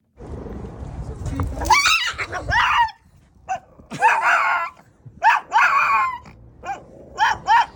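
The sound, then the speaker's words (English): Carly, a 3-year-old Shih Tzu of about 10 pounds, lets out a series of high, strained screaming yelps mixed with growls, loud, in frantic bursts that rise and break over several seconds, on first meeting another dog, Truffles. “An absolute scream of anger and terror.”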